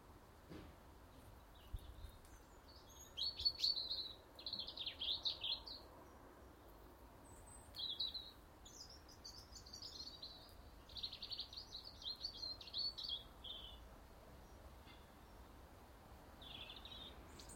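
Sparrows chirp in quick, high-pitched clusters of short notes, repeated in bursts for most of the stretch over a steady low background hiss, with no one talking.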